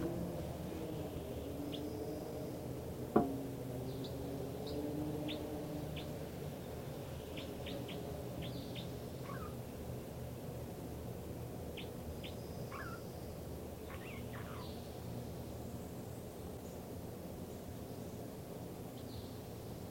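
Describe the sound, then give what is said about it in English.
Bird song from bird number 305: quick, high, thin notes, some falling in pitch, delivered in scattered bursts over a steady low background rumble, with one sharp click early on. “This recording now is the song of bird 305.”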